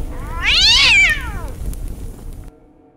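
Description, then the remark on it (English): A cat in a burn barrel in a garage, with gasoline poured into the barrel, lets out one loud, drawn-out scream that rises and falls in pitch, piercing, over a low rumbling background that cuts off abruptly near the end. “He put the cat in a burn barrel in our garage, and he grabbed gasoline and poured it in the barrel, and I could hear the cat screaming.”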